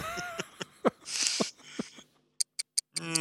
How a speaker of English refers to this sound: Is that the ticking that I hear? That's some awkward ticking coming up, of course. No, the ticking's not awkward. It's this, the conversation about it. Yes, that's the doom clock.